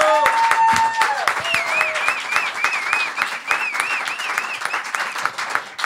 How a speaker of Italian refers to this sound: Un altro applauso!